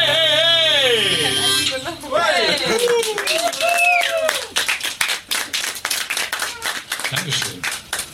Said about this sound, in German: Das ist übrigens gar nicht so einfach, gegen dein Klatschen im Takt zu bleiben. Also das ist echt ein harter Herausforderung.